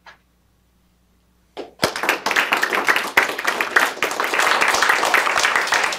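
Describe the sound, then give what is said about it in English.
An audience breaks into sustained applause at the end of a talk, many hands clapping in a dense, steady roar that starts abruptly after a brief quiet moment and holds loud to the end. “I should have pulled the Jeb Bush and said, please applaud.”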